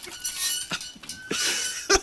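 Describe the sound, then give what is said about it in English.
Loud, high-pitched squeaking from a drawing box being pulled for a draw, with repeated grating bursts and sustained shrill tones over about two seconds, with no talking. “Everybody take your headsets off. It's going to get squeaky.”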